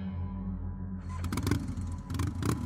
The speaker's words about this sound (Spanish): Encendí mi moto